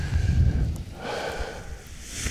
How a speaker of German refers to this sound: Hört ihr das Rascheln? Das sind die Paraglider. Und mit diesen raschelnden Klängen verabschiede ich mich dann heute von euch und an diesem schönen Rhön-Ausflugstag.